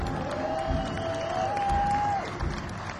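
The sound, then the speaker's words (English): An audience applauds and cheers steadily for veterans for about three seconds, a dense wash of clapping with a long, high whistle rising above the crowd noise partway through. “Hey, let's give the veterans a round of applause.”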